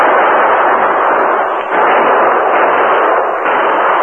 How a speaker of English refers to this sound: They plunged through the thin veil of the waterfall, their guns blazing.